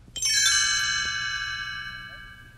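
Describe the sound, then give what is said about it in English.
A bright cluster of chimes rings out once, struck together, its layered high tones shimmering and slowly fading over a couple of seconds with no voices; the page-turn signal in a read-along storybook recording of Pete's Dragon. “You will know it is time to turn the page when you hear the chimes ring like this.”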